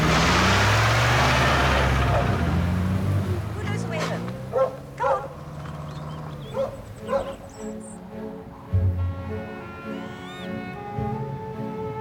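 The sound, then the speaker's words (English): The Queen's three black Labradors bark in short, sharp bursts through the middle of the scene, after the rumble of the car Charles drives away fades at the start, with yips and whines around them. “The Queen gets out, opens the back door, and the three black Labradors jump out.”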